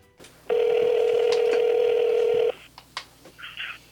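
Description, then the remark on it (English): A telephone line sounds a steady, buzzy tone that holds for about two seconds, followed by a few short beeps and clicks as a call is dialed from a studio to a record producer. No one speaks. “So we thought today we would call”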